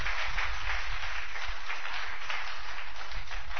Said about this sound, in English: Clap your two hands if you understand.